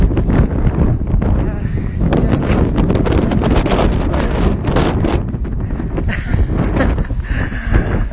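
Strong gusts of wind buffet the microphone outdoors with a loud, continuous low roar, rising and falling for the whole stretch, rumbling with a hissy top.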